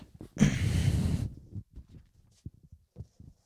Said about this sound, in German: Oh, du musst ja schon wieder niesen.